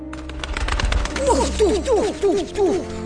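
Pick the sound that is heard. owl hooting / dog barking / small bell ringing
owl hooting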